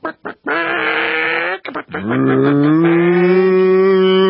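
cows mooing

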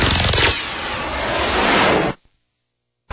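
car engine pulling up

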